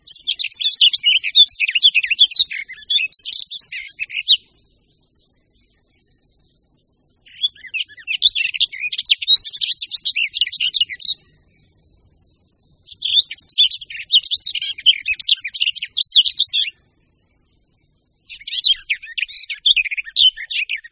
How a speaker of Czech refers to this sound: Zpěv pěnice Slavíkové je poměrně dlouhý, dokonce trvá i několik minut. Od podobného zpěvu pěnice Černohlavé se liší v několika bodech, jednak je mnohem delší a potom nedochází tam k tak ostrému zvyšování hlasitosti a výšky tónu jako u pěnice